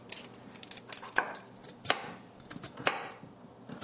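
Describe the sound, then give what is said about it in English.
A knife chops two peeled potatoes into a half-inch dice on a cutting board for nettle soup, with a few sharp, hard thuds spaced irregularly amid lighter tapping and scraping. No one speaks. “We're going to cut these potatoes into a half-inch dice.”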